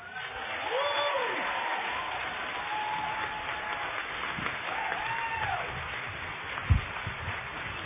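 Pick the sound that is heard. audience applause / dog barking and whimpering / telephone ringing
audience applause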